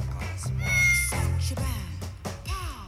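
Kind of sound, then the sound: animal, cat meowing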